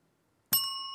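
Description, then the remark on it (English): A single bright quiz ring-in bell ding rings out suddenly after a moment of silence, its clear metallic tone sustaining and slowly fading. It is fairly loud, with no voices. “I like the idea of just ringing in with complaints.”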